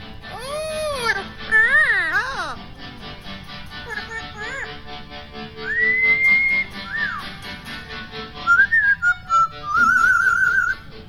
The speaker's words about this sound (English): So let's call up some new bird chirping music, and let's see what Tico has for us today.